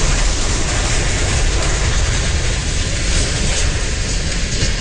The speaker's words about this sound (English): The moment of the derailment was captured on a virtual railfan live stream.